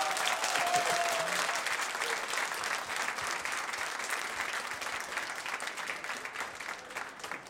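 Sustained audience applause, a dense crackle of many clapping hands that stays fairly steady and full for several seconds before easing slightly toward the end, with no talking over it.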